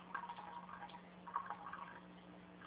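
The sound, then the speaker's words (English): A gentle, steady trickle of water runs from the spout of a water ionizer machine turned down to a slow, easy flow, soft, with faint dripping and splashing textures and a low electrical hum underneath. “So, again, if I back this down now to a nice easy flow and test this water again, I should be back to a nice purple color.”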